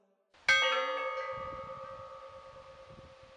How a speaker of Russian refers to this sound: Действие первое. Звон колоколов.